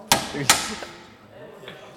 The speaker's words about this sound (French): Un marteau, c'est simple, super simple à utiliser. Avec un marteau, on frappe là, on a besoin de frapper.